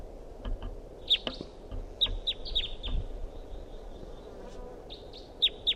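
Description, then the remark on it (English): A wild bird calls in the distance with short, sharp, high-pitched chirps in scattered bursts, some in quick pairs, over a steady low rumble of background noise; no one speaks. “And there's another wild bird in the distance.”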